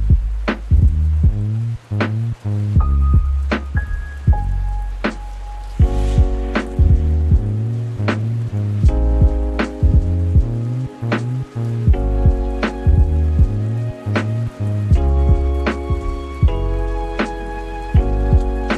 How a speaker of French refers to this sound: On est dans les codes du Lofi. Hein. Ouais. C'est texturé, la petite pluie derrière. Ouais.